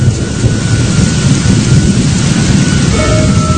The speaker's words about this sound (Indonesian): Singkat cerita, hujan yang deras itu pun cukup awet. Untungnya sih kami sudah mendapatkan keseruan di pantai tadi pagi. Meskipun sorenya diguyur hujan.